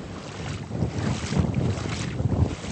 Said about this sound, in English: I'm wading through the water in my galoshes to get to an overpass where hopefully I can get a better view of what exactly is going on.